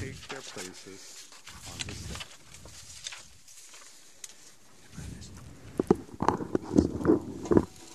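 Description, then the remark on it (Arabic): Several people, the women of the Primary general presidency invited to sit on the stand, walk toward the stand, their footsteps tapping and shuffling at a steady pace, with soft background murmur and rustling throughout. “هذه خطوة طويلة وتحتاج لمشية طويلة.”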